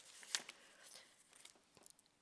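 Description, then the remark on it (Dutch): A sheet of paper from a speaker's text being turned: one crisp snap near the start, followed by soft crinkling and rustling that fades out. Quiet, with no voices. “Dan moet ik even weer het blaadje omslaan.”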